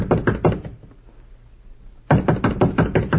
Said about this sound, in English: There it is. Number 14. Should we go right in? No. No, we'll knock first.